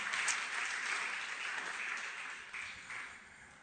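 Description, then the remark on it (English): Sustained applause from an audience, a dense wash of many hands clapping at a steady level for several seconds, easing slightly toward the end, with no voices over it. “Come on, are you clapping?”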